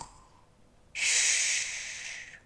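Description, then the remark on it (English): A voice imitates Mrs. Bear's loud snore while reading Jill Murphy's picture book Peace at Last: one long, harsh, breathy rasp lasting about a second and a half, rising suddenly after a quiet moment and then cutting off, with no talking. “Mrs. Bear began to snore.”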